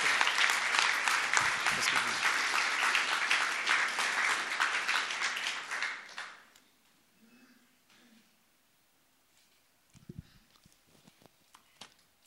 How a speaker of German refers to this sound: Und wir geben ihr einen herzlichen Applaus.